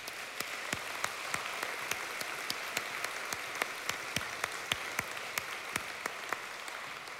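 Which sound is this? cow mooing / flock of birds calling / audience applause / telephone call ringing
audience applause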